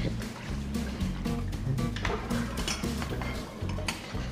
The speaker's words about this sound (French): Tu penses que tu peux aussi faire ma vaisselle? J'ai juste 3-4 tasses, là.